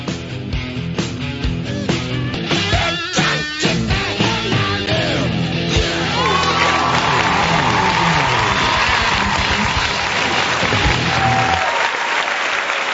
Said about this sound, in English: Well, thank you very much for that wonderful round of applause.